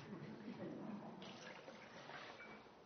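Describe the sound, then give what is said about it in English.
Water from the Pacific Coast off San Francisco, Cape Cod, Fort Worth, Texas, Vermont Springs and Denali National Park pours steadily into a bowl, a continuous splashing rush that brightens and fills out partway through, lasting the whole few seconds. “That water is from the West Coast, Pacific Coast, off San Francisco, Cape Cod, off the East Coast, Fort Worth, Texas, Vermont Springs, and finally Denali National Park,”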